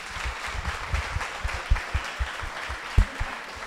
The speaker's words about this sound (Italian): Ci facciamo un bel applauso.